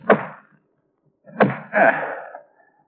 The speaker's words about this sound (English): Shut the door, Mr. Thorncroft.